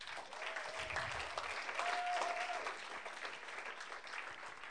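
A crowd applauds steadily for several seconds, a dense wash of clapping with a couple of faint whistle-like tones early on, fading slightly toward the end.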